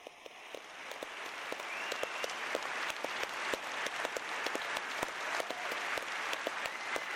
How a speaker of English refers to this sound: So today, a big round of applause for all of those people that have said that they will join, they will help people on site, how they can switch. A big round of applause.